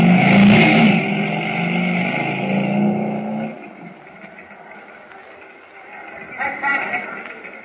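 A motorcycle engine starts with a loud, rumbling roar, then drops quieter as the bike pulls away, with a brief surge of revving near the end.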